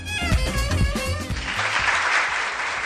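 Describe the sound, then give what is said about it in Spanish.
An audience bursts into applause for journalist and cofrade Luis Samo, named pregonero of the Cofradía de la Pasión de Cristo in Valladolid, Spain; a steady wash of many hands clapping that swells and fills the second half, following a brief moment of tonal, voice-like sound at the start. “Y este aplauso porque periodista y cofrade Luis Samo va a ser el pregonero de la cofradía de la Pasión de Cristo en Valladolid en un acto que se va a celebrar hoy mismo a las 8:30 en la iglesia de San Quirce.”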